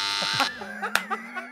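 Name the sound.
wrong-answer buzzer sound effect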